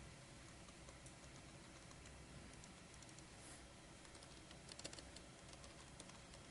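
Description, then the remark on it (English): A few quiet keyboard key presses as someone uses a shortcut, pressing Control and period, then Enter: soft clicks scattered over a low background hiss, with a small cluster of taps near the end and no one speaking. “I can press control dot and bring it up and then press enter, all without moving my fingers.”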